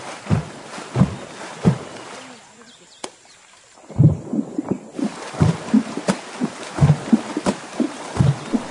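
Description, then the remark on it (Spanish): Women of the Lewetón community in northern Vanuatu drum on river water with only their hands, making deep, hollow, booming splashes in a loose rhythm. After a short lull the beats return faster and denser, layered in a lively pattern. “No necesitan más instrumentos que sus manos y este río.”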